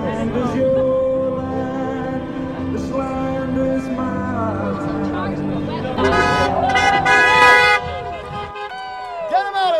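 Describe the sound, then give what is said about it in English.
Thousands of cars carrying signs against the Trump administration honk as they drive back and forth on Western Avenue in Albany, New York, over steady traffic rumble, overlapping toots and longer blasts layered together, with a crowd's cheering and babble mixed in throughout. “Thousands of cars made their way back and forth on this avenue with signs against Trump and the Trump administration.”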